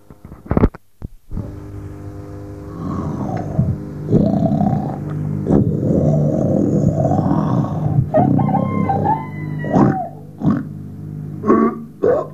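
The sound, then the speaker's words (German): A rooster crows loudly in long, strained, wavering calls that stretch over several seconds with no talking, preceded by a couple of sharp clicks and followed by a few brief squawks. The rooster wakes people at 4:30 in the morning. “Frühmorgens um 4:30 Uhr wurden sie vom Hahn geweckt und wollten zum Bahnhof. Und dieses Wecken wollen wir uns jetzt mal anhören.”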